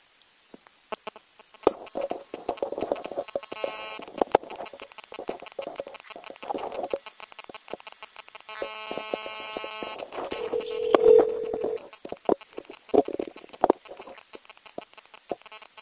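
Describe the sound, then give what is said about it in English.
A second phone call attempt, at 4:26 p.m., is dialed with a string of short clicks and tones, then a buzzy ringback tone sounds in repeated bursts, clear, with no one speaking. “Second phone call attempt at 4:26 p.m.”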